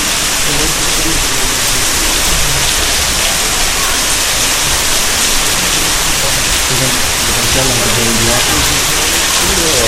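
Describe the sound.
Steady, dense rain hisses continuously and loudly for the whole stretch, a constant wash of sound, with faint muffled voices murmuring underneath.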